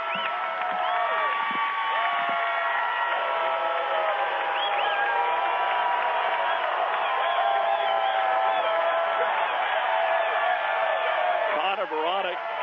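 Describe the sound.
A dense, loud crowd roar of overlapping shouting voices that stays steady for the whole stretch, with jeering cries standing out above the din at an arena game.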